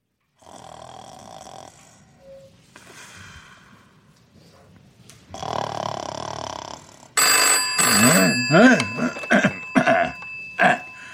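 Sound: telephone ringing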